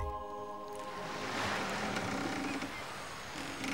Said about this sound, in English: Good grief. What now? A boat?